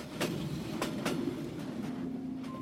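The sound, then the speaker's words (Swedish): A train from Östersund to Stockholm's central station in 1918 rumbles steadily along the rails, with sharp rhythmic clacks of wheels crossing track joints every fraction of a second and a low continuous rolling drone underneath. “År 1918 tar hon tåget från Östersund och kliver av vid Stockholms centralstation.”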